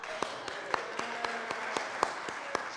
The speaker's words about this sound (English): Thank you for helping everyone to learn a new song today. Thanks for your clapping.